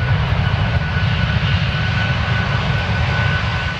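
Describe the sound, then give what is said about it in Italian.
A deep, continuous drone of heavy propeller engines of three US aircraft, including a B-29 bomber, that took off from the island of Tinian during the Second World War. The drone rumbles steadily through a partly cloudy sky, loud and sustained with a low throbbing texture and no voices. “Un rombo di tuono nel cielo, non è un temporale, anche se la giornata è parzialmente nuvolosa.”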